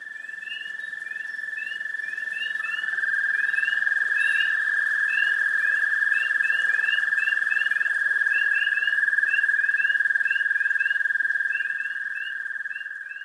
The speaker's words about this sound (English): Spring peepers and other froggy companions croon in chorus around a Carroll County pond. They're proclaiming that winter is over. You're going to have wood frogs, there's southern leopard frogs, and there's dwarf American toads.